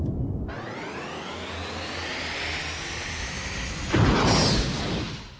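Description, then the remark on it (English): A steady, deep mechanical roar with rising tonal sweeps builds into a sudden loud whooshing burst near the end before easing off, like starship engines surging to warp speed. “Full power now, sir. If you will, Mr. Sulu. Aye, sir. Warp speed.”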